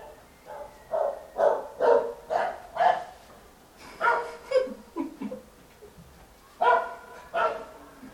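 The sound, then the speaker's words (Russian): A voice imitates the deep, bass bark of a dog that barks constantly day and night: about a dozen gruff woofs, fairly loud, in a quick run, then a pause and a second uneven burst. “Какая-то бешеная собака все время орет сутками.”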